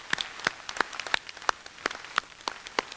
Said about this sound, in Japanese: 皆さんとともに大きな拍手で感謝の気持ちを表明したいと思います。